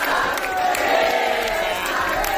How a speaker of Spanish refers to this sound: Esta mañana, por cierto, se escuchaban gritos en la sede del Sabadell, casi casi como si aquello fuera la final de la Champions.